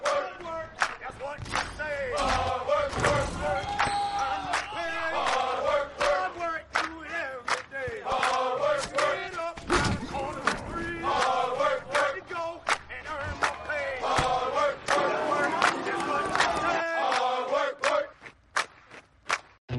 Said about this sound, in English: I'm, you know, with all fans. Everybody's got their gear on. People are chanting and cheering on the train before you even get to the station. There's a sense of camaraderie because Philly loves their sports teams.